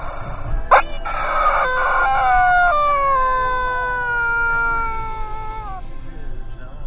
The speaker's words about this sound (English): And also, just to be a little more obnoxious, you guys may remember this ride-along from last year, but I brought them along now as a permanent guest. Ladies and gentlemen, the return of the Screaming Chicken.